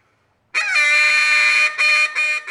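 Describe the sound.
A duck call lets out a loud, squeaky reed note, a missed note in a state duck-calling competition: one long, harsh, high blast that briefly dips, then sounds again. There is no talking.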